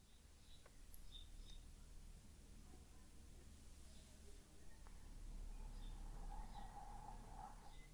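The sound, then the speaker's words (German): Faint birds chirp in the background in scattered short calls over a low, steady hum, with a longer warbling trill rising near the end. “Und dann, vielleicht hörst du auch die Vögel zwitschern hier bei mir im Hintergrund”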